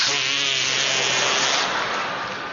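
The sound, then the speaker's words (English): A sustained, buzzy armpit fart made by hand, starting with a low rattling tone and turning into a breathy, sputtering hiss that lasts a couple of seconds, fairly loud and without talk. “Or as we called it in New York, the artificial fart under the arm.”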